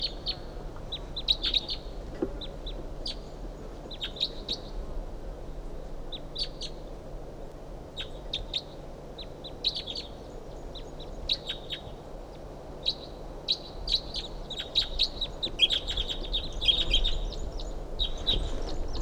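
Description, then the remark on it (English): A wild bird, about 50 yards off in the top of a medium-sized ponderosa pine, calls repeatedly with high, thin chirps and short twittering bursts at irregular intervals, growing busier toward the end, over a low, steady background rumble. No one speaks. “That bird's about 50 yards off in the top of us, medium-sized ponderosa pine.”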